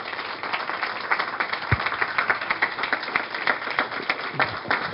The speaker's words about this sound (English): And if you all will join me in giving the panelists and Dr. Pinkett a round of applause.